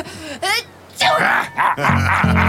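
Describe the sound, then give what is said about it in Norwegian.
A voiced sneeze-like burst, seemingly performed by a person sneezing into someone's hand, amid short gasping and groaning vocal sounds, with brief pauses between them. “nys meg rett i handa.”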